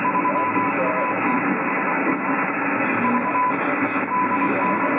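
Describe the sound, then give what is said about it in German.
Dense, steady shortwave amateur radio noise fills the whole stretch, a faint call from a station with an OE5 prefix struggling underneath heavy hiss and QRM interference, the rest of the call lost, with a thin carrier tone whining on and off. “Ja, tut mir leid, es kommt Oscar Echo 5, kommt durch und der Rest verschwindet mir im QRM.”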